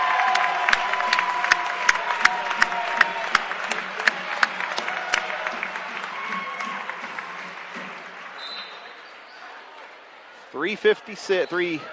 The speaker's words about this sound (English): Nice round of applause for Isaac Wagler.